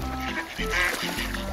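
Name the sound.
duck quacking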